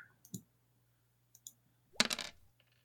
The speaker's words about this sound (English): I'm gonna roll a hit die. And I'm gonna roll another.